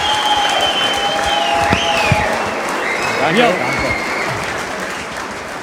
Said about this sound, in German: Aber erstmal nochmal großer Applaus für den Aufstiegstrainer, für Uwe Neuhaus.